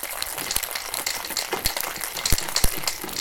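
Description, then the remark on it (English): Ice rattles and clatters inside a cocktail shaker, a steady hiss of churning cubes broken by sharp, irregular knocks, with no one talking. “So I'm just going to shake this bad boy. Okay. I know you did cool. Okay, go ahead. I'm going to shake it with ice.”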